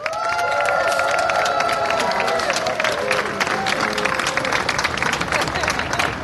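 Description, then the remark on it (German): A large crowd on a square during Pride Week bursts into sustained, thunderous applause for people's commitment to diversity, with dense clapping joined by loud cheering and whoops that are strongest at the start and fade while the clapping continues. “Und dafür, für euer Mega-Einsatz, senden wir euch hier von diesem Platz einen donnernden, einen grandiosen Extra-Applaus für euren Einsatz.”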